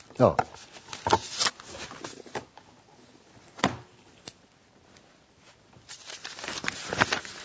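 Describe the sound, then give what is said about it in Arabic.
Crisp rustling of paper being handled and shuffled in irregular bursts as someone searches for papers, busy at the start and end with a quieter stretch in the middle. “شوف بقى حضرتك، أين الورق الذي كان معي؟”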